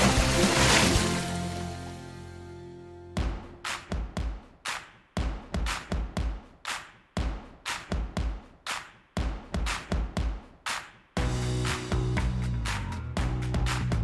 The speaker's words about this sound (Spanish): Esta sintonía nos lleva a hablar de ciencia, la ciencia cierta que nos trae como cada lunes